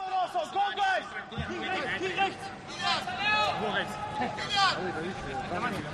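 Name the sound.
shouting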